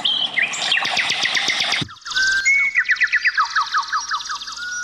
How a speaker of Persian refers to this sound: در زیر همین درختان و بته‌های رنگارنگ و دریای خروشان چمنهای سبز چشم را خیره می کند و صدای خوش‌الحان پرنده‌ها گوش‌ها را نوازش می‌دهد.